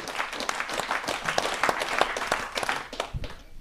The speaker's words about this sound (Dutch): Maar ik vind dat best wel bijzonder eigenlijk. Vind ik wel applaus waard.